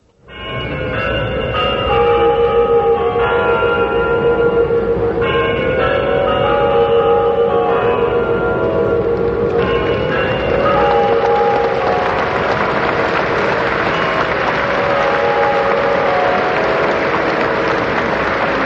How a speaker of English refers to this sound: The chimes of the Kremlin for 4 o'clock, the opening ceremony of the Olympic Games, the 22nd Olympic Games here in Moscow, about to begin